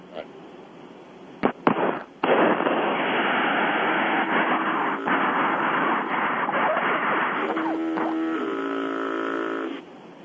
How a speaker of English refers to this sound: All right, did you hear that? I heard what sounded like a foghorn, yeah. Yeah, this is the harassment from these truckers.